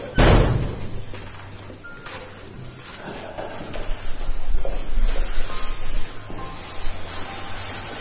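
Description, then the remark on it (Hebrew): The heavy metal door of a gas chamber slams shut once at the very start, loud, its boom fading into a low rumble and echoing noise with faint shuffling afterward. “והדלת, דלת הגזים, נסגרת מאחורינו.”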